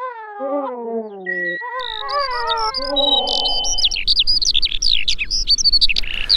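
Layered bird song fills the scene: mewing, slurred calls at first, then a dense chorus of bright, rapid chirps and whistling trills, close and continuous with no voices.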